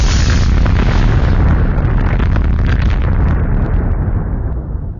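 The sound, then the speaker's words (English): A loud explosion roars out with heavy low rumble and crackling debris, sustaining for several seconds before slowly fading. No music or voices are present, just the blast used as the theme sting for the Rucker Hauer Explosion Time game segment. “Let's roll that Rucker Hauer Explosion Time theme music.”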